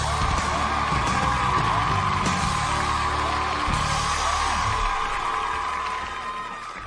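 A crowd applauds and cheers with dense, steady clapping and scattered yells and whoops, staying loud throughout before tapering slightly toward the end.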